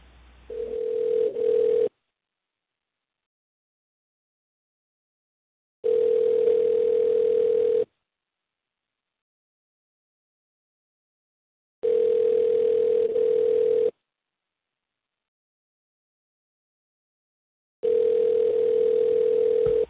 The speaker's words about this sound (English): Now we wait for the frickin' phone to start ringing.